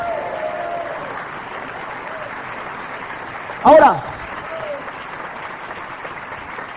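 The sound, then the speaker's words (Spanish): An audience applauds steadily throughout, a dense, even patter of many hands clapping, with a brief louder burst midway as a voice speaks a word over it. “Dale ese aplauso al que vive.”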